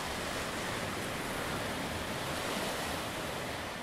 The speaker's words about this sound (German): Kleine bis hohe Wellen, perfekt für Surfer.